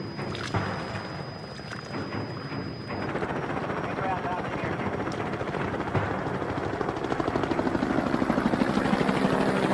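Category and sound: vehicle, helicopter approaching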